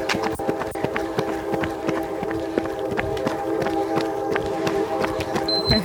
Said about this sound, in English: I hear a train.